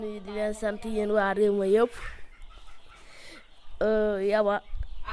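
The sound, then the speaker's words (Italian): Chickens clucking loudly at an intensive chicken farm in Village Diop, Senegal, in two bursts, a long run of clucks that rises in pitch and then a shorter one, with quieter farmyard noise in between. “a Village Diop sta mettendo in piedi un allevamento intensivo di polli, anche grazie ai soldi inviati dai fratelli.”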